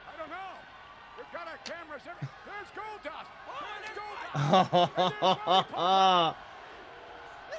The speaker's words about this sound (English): The crowd is so loud. Like, I know y'all want to hear us, but listen to this crowd on your own. The pops that are coming up are bananas.